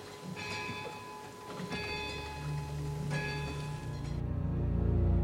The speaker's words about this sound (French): À minuit pile, l'horloge se met à sonner. Le bruit résonne et traverse les vieilles pierres.